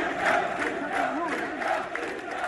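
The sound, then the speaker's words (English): A large crowd of Libyans protesting against the government chants and holds banners outside a mosque in Derna, Libya, a week after a flood; many voices merge into a loud, steady roar that carries on without a break for the whole stretch. “Crowds of people chanted and held banners outside the mosque after dams above the city burst in a storm a week ago, sending a huge torrent down a seasonal river bridge that runs through the center of the city of about 120,000 people.”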